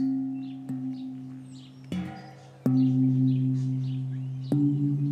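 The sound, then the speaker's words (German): A funeral gong, used to call the neighbours to a burial, is struck four times at uneven intervals, each hit blooming into a deep, sustained metallic hum that layers over the last, while birds chirp faintly in the background. “So klingt der Gong, mit dem die Nachbarn zum Begräbnis gerufen werden.”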